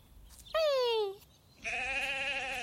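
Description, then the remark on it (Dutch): Two loud, close sheep bleats with a short pause between them; the first is a falling, wavering cry and the second a longer, tremulous baa, with no one talking. “Nu hoort Jopie echt een schaap.”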